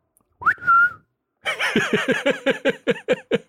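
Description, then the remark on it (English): A short human wolf whistle swoops upward and holds a steady note, followed immediately by a run of loud, rhythmic laughter bursts. “I think you did a little wolf whistle.”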